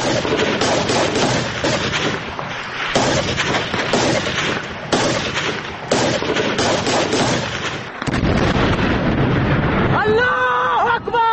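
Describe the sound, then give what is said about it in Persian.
Loud, dense bursts of gunfire and blasts crackle almost nonstop, with excited shouting voices mixed in, from a video released by Jaish al-Adl of its fighters reacting to the explosion of the Saravan border post and a tank of the Islamic Republic of Iran. Near the end the shots thin out as voices rise above them. “آنچه شنیدید صدای بخشی از ویدئوی منتشر شده توسط جیش العدل و واکنش نیروهای این گروه به انفجار پاسگاه مرزی و تانک متعلق به جمهوری اسلامی است.”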